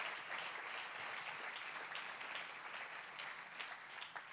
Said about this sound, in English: Clap your hands to the Lord just for a little while here.